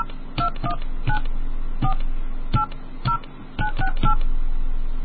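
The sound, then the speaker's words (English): A touch-tone keypad entering a PIN for an MCI calling service: roughly nine short dual-tone beeps at uneven intervals, clear, over a steady low line hum with no voices. “Please enter your PIN now.”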